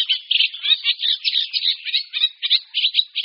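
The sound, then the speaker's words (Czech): Eurasian reed warbler song, sung by the male in reeds: a steady stream of harsh, scratchy, grating chirps in a fairly slow rhythm, with short motifs repeated over and over at a moderate level, no voices. “Zpěv rákosníka obecného je poměrně pomalý, základní motivy se opakují.”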